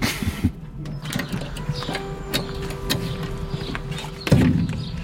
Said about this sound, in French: On ferme la porte. Et là, je vais allumer le gyrophare. Ça me permet de signaler que je suis un véhicule très lent.